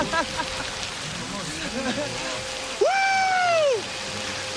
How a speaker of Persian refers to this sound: معلومه چه مرگته؟ فقط بارونه، نه خاکستر رادیو اکتیو.